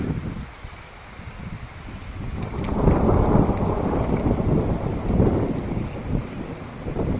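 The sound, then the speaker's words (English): A deep rumble of thunder swells and rolls on for several seconds amid steady rain during a lightning storm by a river, with some wind buffeting the microphone; no one speaks. “Ooh, there's a lightning bolt right over here.”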